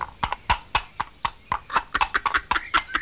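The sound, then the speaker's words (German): Horse hooves clip-clop in a steady, brisk rhythm, a dozen or so sharp knocks, with no voices over them. “es ist doch gar kein Pferd zu sehen. Ja, zu sehen nicht, aber zu hören.”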